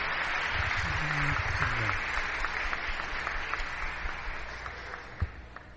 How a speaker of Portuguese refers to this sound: Vamos aplaudi-lo mais uma vez.